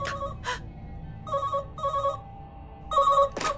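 A telephone rings in short, repeated electronic bursts, clear, with a couple of brief noisy clatters at the start and end and no talking.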